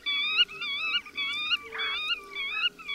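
A black-tailed godwit's territorial call: a steady series of about six loud, high, vibrating two-part notes, each ending in a drawn-out, curling second syllable, with no voices.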